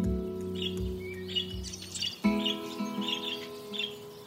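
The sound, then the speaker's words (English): Birds chirp in a garden, with short, bright tweets repeating every half second or so over a low, steady hum, fairly soft. “When Ada was 12 years old, she'd sit in the garden with Mrs. Puff and watch the birds.”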